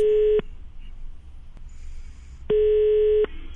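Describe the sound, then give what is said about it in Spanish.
A telephone line's ringing tone as an outgoing call is placed: two long, steady electronic beeps separated by a pause of about two seconds, with faint line hiss in between and no talking. “Pero como si estamos atentos al teléfono, vamos a la primera llamada a ver si conseguimos algo.”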